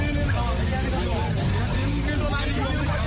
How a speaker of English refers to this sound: Drivers and conductors of public service minibuses are busy touting passengers to board at Bor Bus Park in Gumbo.